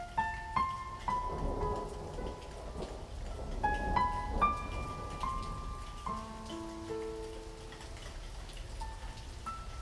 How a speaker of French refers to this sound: les nuages se serrent, j'entends la pluie tomber déjà sur les premières têtes, les premières feuilles.